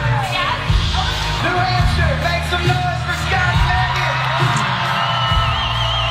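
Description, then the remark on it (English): A crowd at a country music show erupts in loud, sustained cheering after a man proposes to his girlfriend on stage and she says yes, with yells and whoops rising over a dense roar of many voices for several seconds, punctuated by low thumps. “She said yes, and then everyone cheering for them.”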